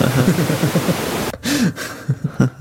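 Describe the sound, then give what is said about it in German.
Dense, steady hiss of noise filtered down to 250 hertz so that it resembles a heavy rain shower without thunder, fairly loud, with someone talking over it; partway through the noise breaks up and drops out in short gaps. “Jetzt ist nur ein starker Regenschauer.”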